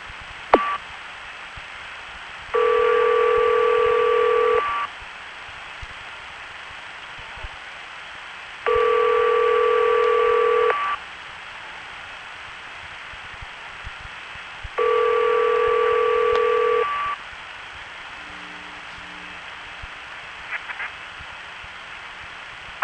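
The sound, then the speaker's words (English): A telephone ringback tone sounds three times, each steady burst about two seconds long, separated by pauses of hiss on a thin, tinny phone line, on a call placed with operator assistance to 881. No one speaks. “It's ringing.”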